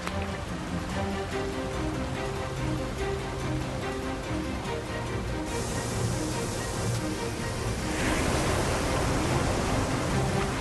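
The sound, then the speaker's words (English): A river's ice breakup flowing past, a serious amount of ice coming around a bend in the river, a steady, dense roar of rushing water and churning ice that holds constant and loud throughout, with no voices. “That is a serious amount of ice coming around the corner.”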